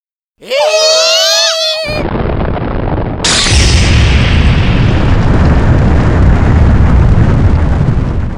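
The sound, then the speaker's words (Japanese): Shrill shrieking voices cut off as the island of Onigashima explodes after a switch is pressed, its loud roaring blast swelling and rumbling on steadily for several seconds until nothing of the island is left. “こうして鬼ヶ島は爆発し、跡形もなくなりましたとさ。”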